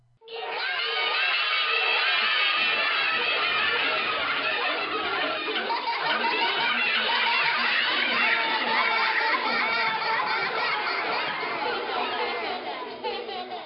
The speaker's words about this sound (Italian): un'allegria, un chiasso, uno strillio da levar di cervello. Branchi di monelli dappertutto. Chi giocava alle noci, chi alle piastrelle, chi alla palla, chi andava in velocipede, chi sopra un cavallino di legno.